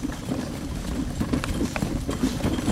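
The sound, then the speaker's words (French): Steady clip-clop of the hooves of a retired racehorse, a trotter, trotting at a regular two-beat rhythm over a low rumbling background with no talking. “On va éviter de passer dans le galope là, le cheval. Hein non, non. Non, il est au trot.”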